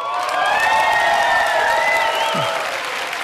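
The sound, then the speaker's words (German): Sustained applause from a large audience for filmmaker Jafar Panahi, a dense steady wash of clapping at even loudness throughout, with faint cheering threaded through it. “Applaus für Jafar Panahi.”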